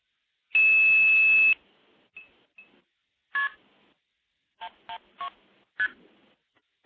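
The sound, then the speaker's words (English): A telephone number, the code 112, is dialed: a long steady tone followed by a series of short electronic keypad beeps, spaced irregularly and heard clearly with no talking. “So 112 is the code for the Evan Dorbell classic tandem stacking tape. So I will dial that.”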